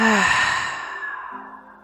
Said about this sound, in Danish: Tag en fuld vejrtrækning mere her. Indånding. Udånding.